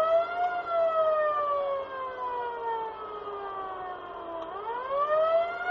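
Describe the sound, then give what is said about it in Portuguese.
An ambulance siren wails loudly and steadily as it arrives at the Military Hospital of Yaoundé carrying four people injured in clashes, its pitch gliding slowly downward before sweeping back up, with no voices present. “Uma ambulância chega ao Hospital Militar de Yaoundé com quatro pessoas feridas em confrontos nas localidades de Banjen e Manfé.”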